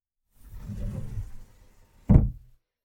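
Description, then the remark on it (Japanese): A door in an apartment, leading from the living room to a bedroom, slides or swings open with a low rumbling scrape lasting about a second, then a sharp thud as it stops, moderately loud with no voices. “この扉は。”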